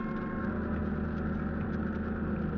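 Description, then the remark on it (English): Boat engines, just turned over after darkness fell, rumble at a steady idle as the boat starts for the beach with its running lights off. A dense low drone with a faint higher whine layered on top holds constant throughout, with no voices. “At last, darkness fell and we turned over our engines and started to the beach, our running lights extinguished.”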